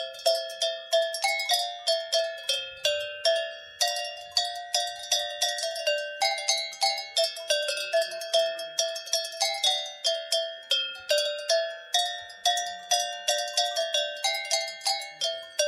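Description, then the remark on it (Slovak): Cowbells ring out as music, a steady rhythmic clanging of many bright metallic strikes with sharp attacks and ringing tails, forming a lively repeating beat with no voices. “teraz vám tu zahrá zo zvoncov muzika.”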